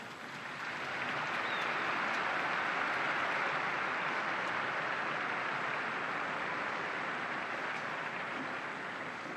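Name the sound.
applause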